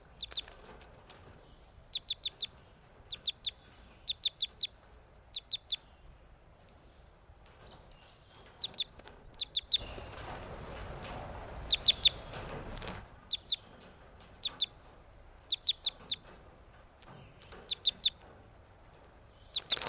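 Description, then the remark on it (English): Newly caught captive crossbills give quick clusters of sharp, high chip calls, repeated every second or so. A burst of soft, rustling wing flapping swells briefly in the middle. One is a male whose bill crosses to the left. No one speaks. “It looks like the male with the bill that crosses to the...”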